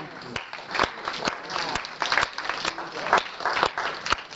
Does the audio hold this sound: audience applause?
yes